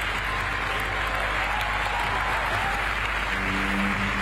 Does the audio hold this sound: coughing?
no